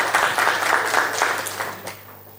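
Audience applause for the organizers, a dense wash of many hands clapping at steady loudness, then thinning out and fading over the last half second with no one speaking.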